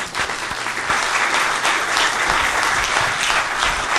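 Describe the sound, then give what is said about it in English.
Steady audience applause for an entire panel fills the whole span, a dense wash of many hands clapping at an even, sustained loudness with no voices standing out. “Could I have a round of applause for the entire panel here?”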